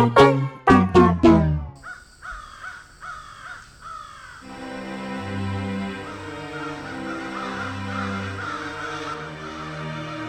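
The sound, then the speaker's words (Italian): Several loud crows, birds somewhat larger than pigeons, caw in a quick burst of harsh calls at the start, then keep calling raucously over a steady background of musical tones. “Raga, questi uccellacci non se ne vanno.”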